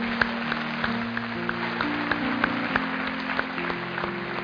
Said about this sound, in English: Come on, let's clap for the Lord.